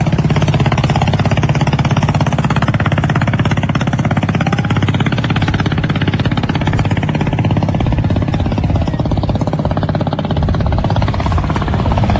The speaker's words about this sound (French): Gros trafic de... Ça, c'est des ferries qui descendent le fleuve ou qui montent le fleuve.